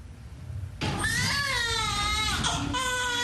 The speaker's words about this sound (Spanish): El llanto prolongado que se escucha en una sala de parto es el sonido más esperado por una madre que está dando a luz.